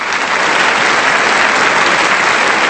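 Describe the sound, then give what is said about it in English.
A crowd applause sound effect: steady, dense clapping at constant loudness throughout, with no voices and no pauses. “That's the white privilege crowd.”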